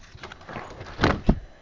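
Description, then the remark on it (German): A single paper swish followed by a soft tap as a child turns a page of a book, set against quiet background noise with no talking. “Dann darfst du wieder umblättern.”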